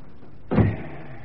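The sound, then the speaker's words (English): A door is shut with a single solid thud, a sudden deep bang that rings briefly and fades into a low murmur. No one speaks. “Shut the door.”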